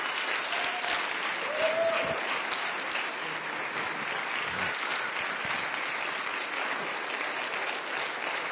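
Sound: audience applause and clapping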